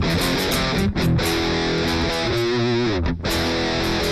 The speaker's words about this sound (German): Ich bin im Bridge-Pickup. Oh krass. Oh krass. Ja. So klingt für mich der mit 2000er digitale Multi-Effekt Rhythmus-Gitarren-Sound. Ja, original. 1:1. Könnte auch Behringer VM sein.